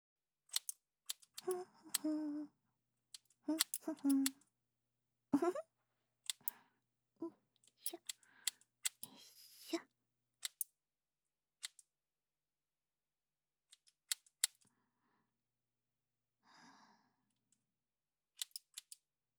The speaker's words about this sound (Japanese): 君はいつも通りお姉ちゃんに全部任せて、ゆったり、ハサミの音でも楽しんでなさい。